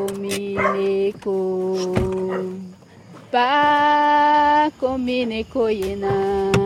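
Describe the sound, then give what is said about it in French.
Village dogs in a Surui indigenous village, woken at night by people arriving, bark and yelp with sharp bursts and drawn-out, whining cries overlapping in an agitated, irregular chorus. “Et on a réveillé les chiens.”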